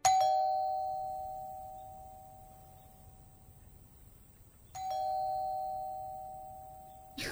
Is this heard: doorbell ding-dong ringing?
yes